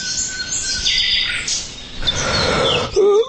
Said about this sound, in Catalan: Quan es va despertar, el sol brillava i els ocells cantaven al seu voltant.